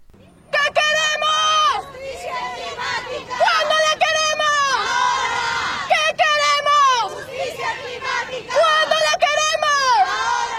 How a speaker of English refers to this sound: These women were part of the vast crowds marching outside the United Nations climate talks in Lima, Peru, in December 2014.